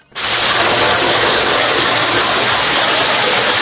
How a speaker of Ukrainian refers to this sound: Стіни з бетонних опор тут завжди вогкі. Температура 10 градусів тепла в будь-який сезон. Під ногами грязюка і струмочки води. Це дренажно-штольневі системи, які будувалися від кінця 19-го сторіччя і нині відводять ґрунтові води